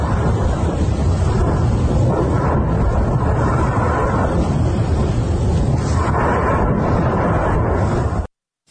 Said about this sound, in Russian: В социальных сетях появилось фото и видеосвидетельство крупного пожара на месте предполагаемой швартовки корабля. На этих кадрах момент взрыва, запечатленный очевидцем.